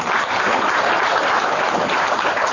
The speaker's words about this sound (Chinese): 鼓掌。